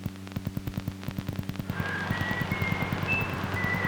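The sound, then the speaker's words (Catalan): A man whistles a thin, wavering tune from about halfway through, fairly faint and distant, in the middle of the Rambles, after a steady rhythmic clopping and amid a low background hiss. “Un tio xiulant per aquí a mig de les Rambles.”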